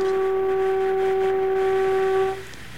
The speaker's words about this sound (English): let's hear that old time foghorn